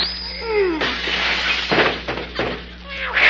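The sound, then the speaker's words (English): A cat on a fence outside at night yowls in a short, wavering, descending cry, then is cut off by a loud, sustained crash like breaking glass and clattering debris. “is there any way of stopping that cat out there on the fence?”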